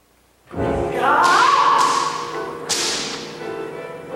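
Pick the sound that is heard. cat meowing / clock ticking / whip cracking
whip cracking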